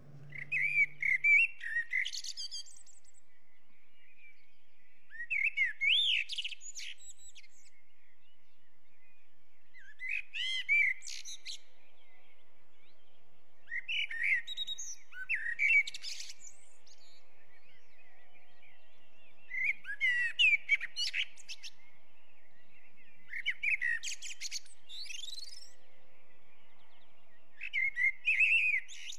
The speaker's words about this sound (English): I think they're the most beautiful bird, actually, in that simple sort of way. And fine songbirds, too. Wonderful songbirds, yeah. It's extraordinary. They're very versatile. Can we hear a blackbird?